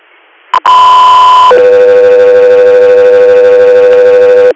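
A loud two-tone radio dispatch alert for the air medical unit Echo 3 Air: a brief click, then a steady higher electronic tone for about a second, switching to a lower sustained tone that holds for several seconds. No voices.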